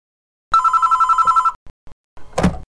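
A telephone rings once in a fast, trilling electronic burst lasting about a second, followed by a couple of soft clicks and a louder clunk like a handset being lifted, as a call from a branch office comes in to the company head office.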